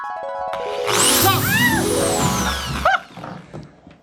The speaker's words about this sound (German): nicht wie ein normaler Mensch mit einem Hebel Löcher in die Kastanien zu machen, sondern mit einer schönen großen Bohrmaschine